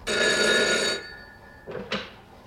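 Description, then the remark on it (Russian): A telephone bell rings loudly as the radio room calls, a single bright, metallic burst of about a second, its tone lingering as it fades, followed by two short clattering knocks. “Меня опять вызывает радиорубка.”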